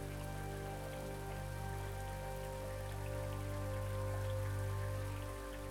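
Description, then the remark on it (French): Steady rain falls continuously for the whole stretch, a dense even patter at constant loudness, with a low sustained hum running underneath and no voices. “Il suffit de se laisser convaincre par ces hypnotiques lumières roses, de lever légèrement le nez en dehors de ces capes permettant de se protéger contre cette pluie sans fin.”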